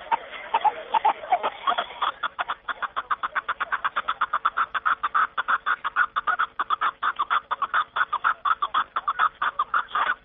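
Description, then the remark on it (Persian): A snowcock gives a long run of rapid, rhythmic clucking calls, steady, continuing without pause for several seconds with no voices present. “جناب شریفوف همچنین افزود که کپ که دری صدای خیلی آرام دارد و زبی کوفتاران است.”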